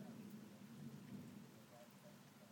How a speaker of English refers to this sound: Still raining. It's a big storm somewhere, but it's not quite overhead here at the moment. Oh, I think I saw the lightning then.